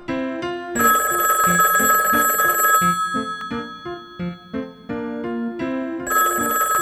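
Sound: telephone ringing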